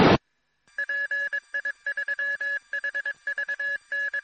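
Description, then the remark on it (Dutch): A short burst of static, then a radio repeater sends a string of electronic beeps in an uneven on-off pattern, like Morse code, at a steady mid pitch with no voices. “Nou, dat was de repeater, die wil ook nog even reageren.”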